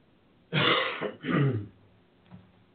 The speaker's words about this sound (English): Excuse me while I cough off camera, off mic.